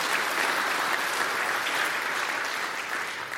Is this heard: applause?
yes